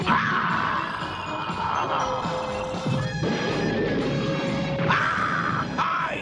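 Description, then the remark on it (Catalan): In a Catalan-dubbed Dragon Ball scene, Colonel Silver fires a hand cannon at Satanirus in the desert amid a dense, loud wall of crashing noise, with sharp blasts around the middle and again near the end and a thin whining tone running underneath. “El coronel alça un canó de mà i dispara contra en Satanirus.”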